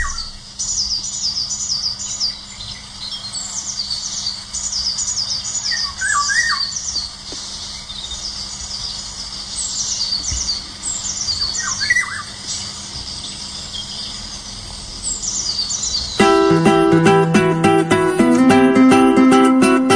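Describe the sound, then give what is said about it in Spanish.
A Eurasian golden oriole sings amid a busy chorus of repeated high bird calls and squawks, with a few fuller fluty phrases, before a loud sustained musical tone cuts in near the end. “Yo creo que lo mejor es despedirme hoy de ti con ese canto tan fantástico del pajarito.”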